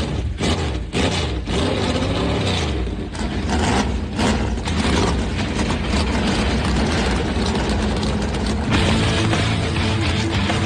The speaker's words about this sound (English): Drivers, start your engines! The command has been given. Let's crank them up.